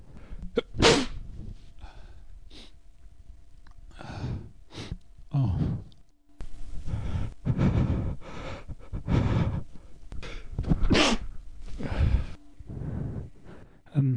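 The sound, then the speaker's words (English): Several loud sneezes burst out at uneven intervals, with sharp gasping inhales and heavy breathing between them and a brief spoken exclamation. “I have to sneeze.”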